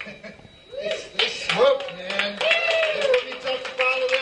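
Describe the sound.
A big concert crowd applauds as a band starts to play, with steady, irregular clapping that swells after the first second, while voices and cheers ring out over the applause throughout.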